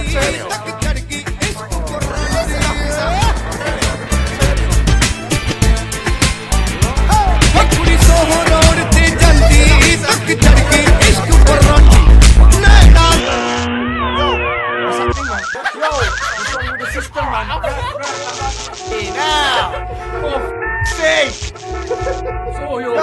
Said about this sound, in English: we've heard reports of a very loud system round here